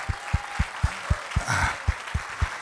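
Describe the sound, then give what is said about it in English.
A church audience claps hands to God during a sermon in a steady, rhythmic beat, about four claps per second, with a brief voice rising over the clapping partway through. “Everybody that wants to obey God and embrace the blessing of God, clap your hands unto Him.”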